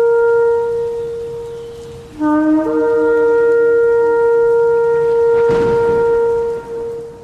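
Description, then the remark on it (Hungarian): Horns blown for the Feast of Trumpets: a loud horn blows a long, steady note, then a second, deeper horn blast joins and both hold together, sustained and droning until the end, with no voices. “Kürtzengés ünnepe.”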